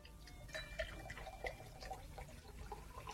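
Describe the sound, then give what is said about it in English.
Water is poured into a glass, a short run of bright splashing and trickling with faint tonal clinks, and there is no talking over it. “More water? Please.”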